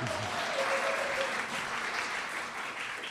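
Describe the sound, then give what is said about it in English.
An audience claps steadily for about three seconds, a dense, even wash of many hands with no breaks, holding a fairly constant loudness throughout. “Every time you applaud, we take about a dollar off his salary, so applaud again if you would.”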